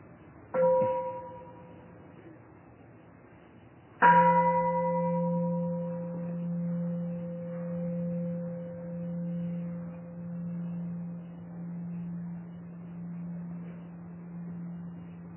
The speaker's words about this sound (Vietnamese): Xin mời quý vị nghe chuông và theo dõi hơi thở.